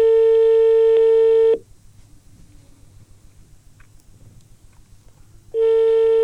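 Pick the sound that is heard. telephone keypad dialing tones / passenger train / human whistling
telephone keypad dialing tones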